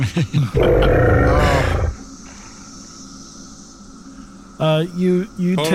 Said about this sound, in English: That's a dragon.